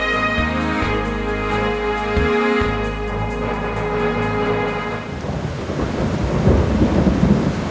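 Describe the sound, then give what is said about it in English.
A thunderstorm with heavy rain: deep thunder rumbles loudly through the first few seconds, then a dense, hissing downpour takes over, steady, with no voices. “The never-ending story begins with really bad weather.”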